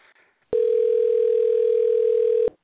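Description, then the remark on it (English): A phone line ringing on a call: one loud, steady electronic tone that holds for about two seconds, then cuts off abruptly, with no voices. “You hear the phone ringing?”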